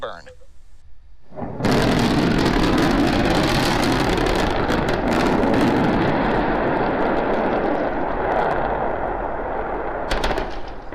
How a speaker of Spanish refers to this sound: el sonido de esa explosión, de ese aterrizaje fallido